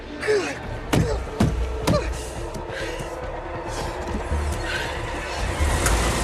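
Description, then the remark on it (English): A car engine idles in a driveway with a steady low rumble throughout, while three sharp, heavy thumps of a fist pounding the steering wheel land in quick succession during the first two seconds. “Idling in her driveway, she pounds the steering wheel.”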